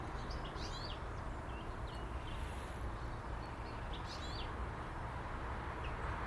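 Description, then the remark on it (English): A family of house sparrows chirps in scattered short bursts, faint, over a steady low outdoor rumble, with no voices present, as they come round to the back of a house to be fed breakfast. “Here comes a family of house sparrows.”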